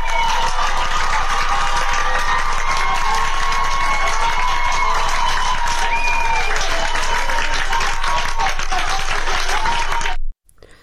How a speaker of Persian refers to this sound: ویدیو دیگری از اهواز منتشر شده که ابتدا یک دختر جوان که دو دختر جوان دیگه هم بهش میپیوندن، در وسط خیابان روسریاشون رو برداشتن و میرقصن و مردم در اطراف در پیاده روها وایسادن برای اونا دست میزنن که صدای این رو هم میشنویم.